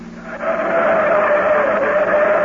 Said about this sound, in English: This is a steep grade. Quit worrying. The new car handles great. These turns are plenty sharp